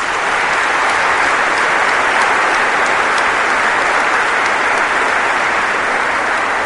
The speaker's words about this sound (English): what an incredible community Knox College is, applaud that thought, please. Thank you.